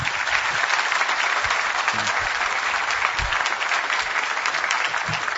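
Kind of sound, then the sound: crowd, audience applauding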